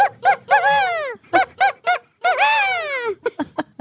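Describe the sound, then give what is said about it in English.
A voice imitates a honking bird, with short nasal honks and two long, sliding, wavering calls, then a quick run of clipped honks at the end. It is loud, with no talking. “I like to do all different types. Bird calls. What kind of bird does that kind of noise?”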